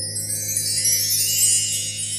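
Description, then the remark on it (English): Chimes ring in a continuous bright, shimmering wash of high tones over a steady low drone, played in a sound meditation session as a celebration. The sound stays fairly even in loudness throughout, with no voices. “We'll throw some chimes in for that celebration.”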